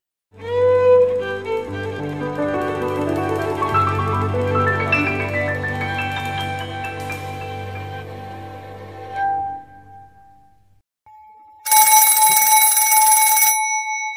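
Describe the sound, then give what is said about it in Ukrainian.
A telephone bell rings once, loud, in a bright metallic burst lasting about two seconds. It follows a stretch of sustained tonal music that fades into a brief silence. “Задзвонив телефон.”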